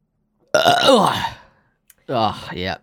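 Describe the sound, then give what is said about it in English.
Two loud burps into the microphone, the first long and drawn out, the second shorter after a brief pause, with a tiny click between them. No talking. “Burping into the microphone whenever I could”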